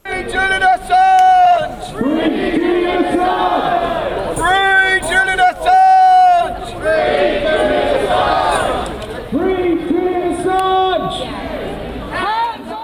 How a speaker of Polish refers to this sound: Przed londyńskim Królewskim Trybunałem Sprawiedliwości zgromadził się tłum skandujących hasła w poparciu dla Assange'a.